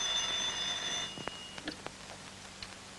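telephone ringing

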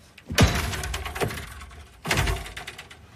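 door being kicked open

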